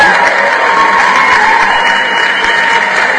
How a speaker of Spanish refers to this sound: Claro que se merece un aplauso, ¿no?